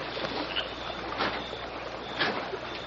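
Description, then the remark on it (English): Faint oar splashes from a rowboat on a river, a few soft watery strokes spaced irregularly apart over a steady background hiss, with no talking. “Oh, it not sound like that. Sound like oar splash.”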